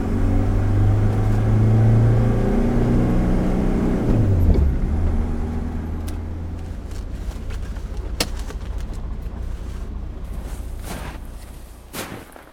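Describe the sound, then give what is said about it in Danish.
A car driving on a motorway toward Borup on a Sunday: its engine drones loudly with a steady low hum, then its pitch drops as it slows partway through before settling into a continuous road rumble with occasional faint clicks. “Jeg kan huske, at jeg havde sådan dengang, at vi kørte på motorvejen.”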